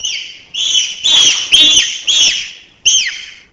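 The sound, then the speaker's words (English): A series of bark screams: about five loud, shrill calls in quick succession, each starting with a harsh, noisy burst and sliding into a piercing high tone, with no talking. “A series of bark screams, example 21.”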